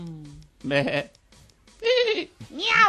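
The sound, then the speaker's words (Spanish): A person imitates a goat or sheep, giving three quavering, nasal bleats in quick succession, fairly loud, after a brief low vocal sound at the start. “¿y si te meten oveja? ¿Si te meten cabra?”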